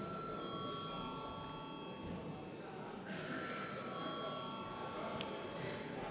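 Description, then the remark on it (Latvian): A parliament chamber bell rings steadily for about six seconds before a vote on the urgency of a bill. It is a sustained metallic electric tone that briefly shifts midway, over a low background murmur of the hall. “Lūdzu zvanu.”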